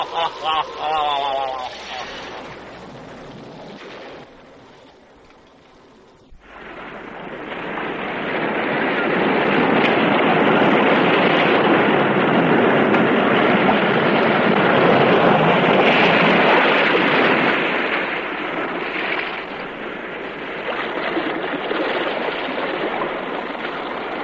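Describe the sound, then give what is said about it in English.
A heavy, rushing roar of sea waves in a cave by the sea swells up after a brief quieter opening, surging loudly for several seconds before slowly easing back, as though surf is breaking in an echoing space. “In this cave by the restless sea, we are met to call from out of the past stories, strange and weird.”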